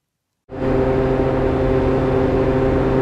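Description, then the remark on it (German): After a brief moment of silence, the steady, monotone hum of an exhaust ventilation system starts and holds at the entrance to a salt mine used as an underground toxic waste dump, beneath a green-painted steel headframe, one morning: a loud, unchanging drone with low tonal pitches and a breathy whir on top. “Das monotone Brummen einer Abluftanlage ist das einzige Geräusch, das an der Einfahrt zum Salzbergwerk zu hören ist.”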